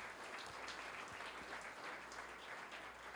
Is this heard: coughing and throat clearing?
no